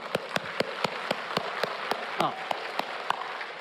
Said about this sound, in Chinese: 弟兄姐妹，教会不是牧师一个人在做，我们好多的弟兄姐妹都是马大，因为马大这个家才在运转。我现在邀请弟兄姐妹为我们教会的马大鼓掌，好不好？